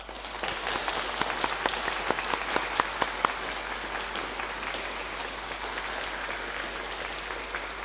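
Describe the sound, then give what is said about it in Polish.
A crowd at a Radio Maryja family gathering at Krzeptówki in Zakopane applauds steadily as a warm greeting to listeners and viewers around the world, a dense wash of many hands clapping with a few sharper individual claps standing out near the start, no voices over it. “Pozdrówmy ich gorącymi oklaskami, niech popłyną na cały świat.”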